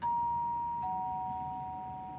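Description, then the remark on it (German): An apartment doorbell in replacement housing, its nameplate topped by an IT company's name, rings with two clear, sustained electronic tones, the second slightly lower and starting just under a second in, both slowly fading over a low background hum. “Ganz oben auf der Klingel steht der Name eines IT-Unternehmens.”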